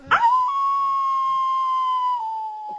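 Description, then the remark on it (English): A single long werewolf-style howl swoops up sharply, then holds a steady, loud, sustained tone for over two seconds before dipping slightly and trailing off at the end. “Werewolves like to howl.”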